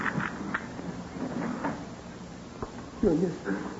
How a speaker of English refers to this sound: I'll unlock the door, Pop.